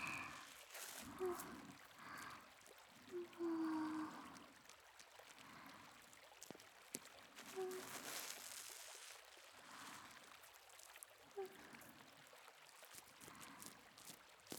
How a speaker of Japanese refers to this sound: まずはたくさん泡を泡立てて、絹みたいな泡をなじませていきます。